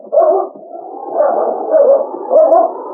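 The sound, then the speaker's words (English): A dog, Blackie, barks and howls at night at something up a tree, its voice rising in three or four drawn-out, baying swells over a few seconds, with no one talking. “Better put a bark on.”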